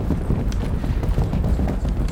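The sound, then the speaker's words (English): A galloping stampede: many hooves pounding together in a dense, rumbling stream of low thuds, loud and steady throughout with no voices; a last-minute hungover rush to a breakfast buffet at 5 to 11. “I think it's just some sort of deadly stampede.”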